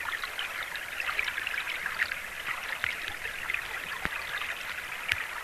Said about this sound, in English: If you have a flowing river, it's the little stones and the little sand in the creek bed that just go flowing with the water, and that actually makes a nice sound. It's actually the rocks, the gravel, the sand that gets washed down a creek.